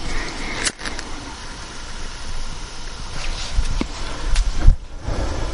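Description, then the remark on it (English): An outdoor air conditioner fan runs with a steady, broad whooshing roar and low rumble, broken by a few brief clicks and soft thumps. No one speaks. “I think that's my air conditioner outside, the fan making a lot of noise.”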